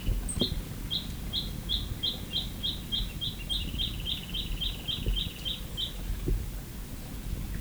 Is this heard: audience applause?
no